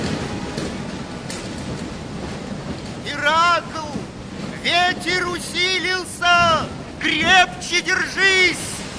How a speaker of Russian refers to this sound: Сначала плавание было спокойным, но затем поднялся ветер, море разбушевалось.